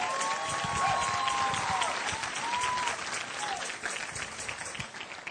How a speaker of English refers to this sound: Just let's give God a round of applause.